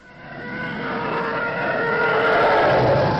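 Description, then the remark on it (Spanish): A sound-effect recording of an imperial space fighter ship passing overhead, a harsh whining rush that swells steadily louder over a few seconds with a shrill, warbling edge. No voices. “Pues a que tengo horas, y cuando digo horas, son horas de grabaciones singulares como esta que voy escuchando en el coche, por ejemplo, caza imperial pasando por encima de tu cabeza.”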